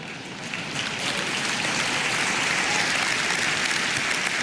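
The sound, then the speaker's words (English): An audience in Finland claps steadily for several seconds, a dense, even wash of many hands that swells slightly at the start and then holds at a strong, constant level with no voices. “But the reason you laughed and clapped is because you know it's not.”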